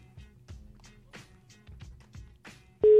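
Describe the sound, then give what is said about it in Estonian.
Soft, irregular tapping and thumping give way near the end to the ringback tone of an outgoing phone call: a loud, steady single-pitched tone that starts abruptly and holds to the finish. “Laseme siis ikka veel edasi. Laseme kutsuda.”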